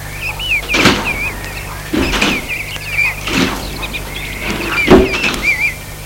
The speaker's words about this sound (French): Il entre dans la voiture.